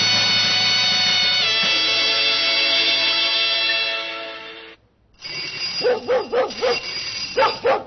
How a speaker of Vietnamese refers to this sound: Ra mở cửa đi, con Khiết nó sủa mừng khách quen đó.